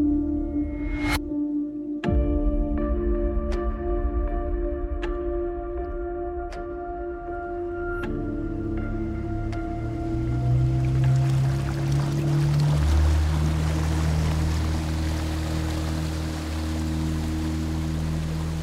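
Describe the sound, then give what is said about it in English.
A boat glides steadily along calm water down a small channel toward an old dilapidated dock, a low steady hum underneath, a few light knocks early on, and a soft swish of water that gradually builds and fills out. No one speaks. “Instead, we glided down a small channel along calm water until we reached an old dilapidated dock.”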